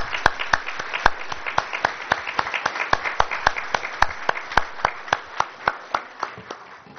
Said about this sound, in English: Can we give a round of applause to our League of Women Voters?